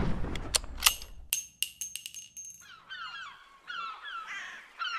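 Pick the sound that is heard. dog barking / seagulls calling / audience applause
seagulls calling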